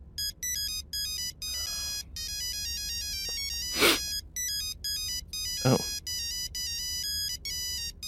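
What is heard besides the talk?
cell phone ringtone ringing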